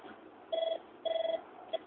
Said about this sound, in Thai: มีสายเข้าเชิญนะครับ